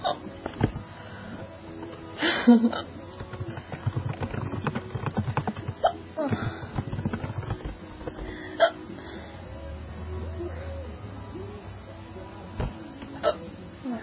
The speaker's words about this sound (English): Hey, I finally actually got the hiccups today.